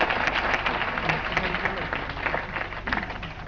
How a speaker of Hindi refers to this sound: ये उन्हें सुनाना है जो मांस का उपयोग करते हैं, हो सकता है मेरी आवाज विदेशों में पहुंचे, ऐसे अगर आप ताली बजाएं, आपकी तालियों की आवाज जाएगी तो मेरी कविता पहुंच जाएगी।